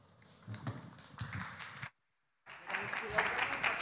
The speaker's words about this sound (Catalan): Si us sembla, els aplaudim i així ja comencem a dalt.